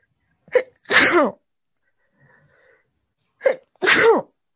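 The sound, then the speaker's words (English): Two loud sneezes, each a sharp inhaled catch followed by a forceful burst, separated by a brief pause with a faint sniffle or breath in between. “Excuse me, I'm about to sneeze.”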